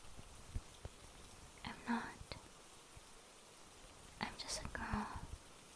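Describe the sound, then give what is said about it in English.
Soft, steady rain falls on a cold night, hissing in the background with a few sharp drip-like taps, while someone whispers quietly in two short bursts. “Hugging her adorable, flustered, unruly human plushie on a cold, rainy night.”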